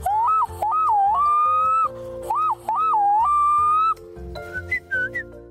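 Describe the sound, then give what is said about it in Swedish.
A person whistles an imitation of a black-throated loon call: two long, wavering phrases of looping rises and dips that settle into a held tone, then a few softer, higher notes. “Hans storlom är så himla fin, tycker jag.”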